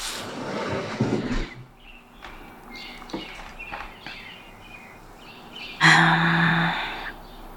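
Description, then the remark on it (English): Birds call outside through an opened window around 5:16 a.m. in Michigan while it is snowing, with scattered softer chirps and then one loud, harsh caw-like cry near the end. A brief rustling, shuffling noise comes first, with no talking. “Oh, I can hear birds outside. I'll open the window so you can too.”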